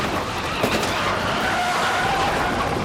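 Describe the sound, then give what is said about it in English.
A police car rams a suspect's car during a chase as it races for an off-ramp, flipping it upside down, amid a steady, loud roar of engine and road noise, with a sharp knock early on and a thin tire squeal whining through the second half. “The police unit rammed the suspect's car, and it's flipped upside down.”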